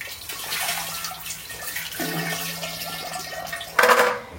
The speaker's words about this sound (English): So then, I take this, which still has some water in it, and I rinse the lid.